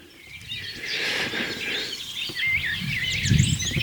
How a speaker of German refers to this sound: Aber es ist heller, es ist lauter, es ist flötender, es ist glänzender. Und es kommt aus einer Hecke und nicht irgendwo von einer erhöhten Singwarte. Also kann es sich nur um die Mönchsgrasmücke handeln. Typische Vertreter der Melodiker.